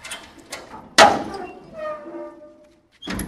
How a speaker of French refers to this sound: La porte de la remorque couverte, fermée.